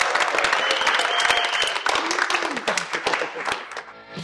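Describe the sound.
An audience applauds, many hands clapping in a dense, steady crackle that holds strong for several seconds before thinning out toward the end, with some crowd voices mixed in.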